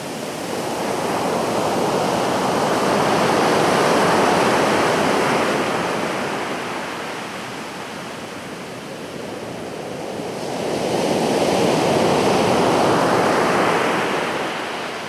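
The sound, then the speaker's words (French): Wind blowing in strong, steady gusts that swell, ease off around the middle, then build again: a broad, roaring rush, loud, with no voices. “J'aime entendre le son du vent.”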